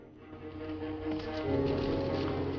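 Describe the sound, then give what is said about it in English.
A horse's hooves canter through a forest in a quick, steady rhythm, growing a little louder halfway through, over a continuous low tonal background. “Cantering through the forest, Johnny pauses and glances warily around him.”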